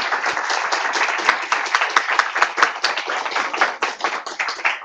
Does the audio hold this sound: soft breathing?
no